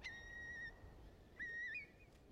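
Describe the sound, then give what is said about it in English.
A Eurasian curlew calls with clear, whistled notes: a long steady tone, a short pause, then rising, bubbling slurred phrases. Fairly quiet and heard alone over faint background noise. “Oh, that's the Curlew.”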